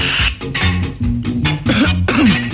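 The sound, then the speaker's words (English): A person coughs hard after smoking, several times in quick succession, harsh hacking bursts with raspy, strained breaths between them, loud with no talking. “No, man, this make me cough, man.”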